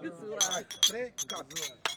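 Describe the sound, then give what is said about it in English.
Glasses of local homemade raki clink together in a toast with musicians in Permet, Albania, two bright ringing chinks in quick succession amid a bustle of overlapping voices and cheerful chatter. “And the musicians have invited us to a round of raki. So I think it's time to say cheers in Albanian.”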